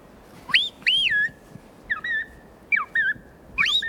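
Loud, metallic bird song from the Amazon with no voices: four whistled phrases, each a sharp rising note sliding into a steadier lower tone, with a ringing, doubled two-voice quality, separated by brief pauses.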